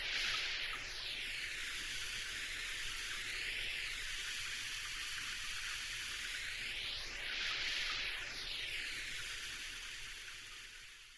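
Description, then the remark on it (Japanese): Steady hiss of a shower spray rinsing shampoo from hair, running continuously for about eleven seconds with a swirling, shifting tone as the water stream moves around; no voices. “はい、きれいに流せましたよ。”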